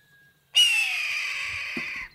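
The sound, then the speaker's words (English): A single loud, raspy red-tailed hawk scream, a territorial screech telling other hawks to stay away, bursts in and stretches for about a second and a half, harsh and slightly falling in pitch, with no talking. “the raspy scream of red-tailed hawks are often dubbed over clips that show other birds in flight”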